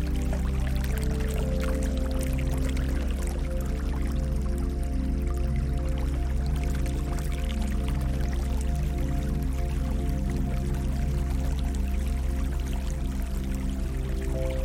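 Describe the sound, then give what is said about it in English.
A crystal clear river flows steadily and continuously, with bubbling, trickling water close by, layered over a low, sustained humming drone. No one speaks. “Now pay close attention to the sounds of the crystal clear river beside you.”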